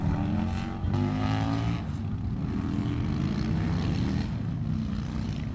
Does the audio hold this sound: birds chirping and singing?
no